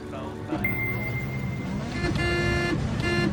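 A car horn honks over steady traffic rumble: one long, high blare, then two shorter, louder toots in quick succession.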